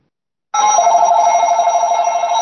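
A telephone rings with an incoming call from an unavailable caller name, a loud, steady electronic bell tone that starts abruptly and continues without a break, alone with no talking.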